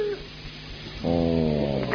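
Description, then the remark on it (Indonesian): A toddler cries in a long, sustained wail that begins about halfway through, holding a steady high pitch and growing louder in a brief burst at the very end. “Itu yang bunyi itu kan? Kenapa? Itu yang sedang menangis.”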